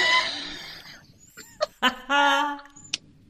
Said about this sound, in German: Und jetzt haben wir halt ein bisschen Genau. ein Vogelgezwitscher im Hintergrund, aber es ist ja schön. Ja, aber das ist doch hübsch.